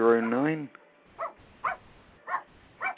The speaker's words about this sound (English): Oh, it's a dog. Yeah. Okay, well, that was delightful.